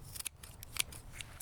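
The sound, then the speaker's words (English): Scissors snip through plant roots in a quick series of crisp, high metallic clicks, several sharp cuts in an irregular rhythm, fairly quiet and with no one speaking. “Yeah, it's like I'm giving them a haircut. I just need to cut the hair?”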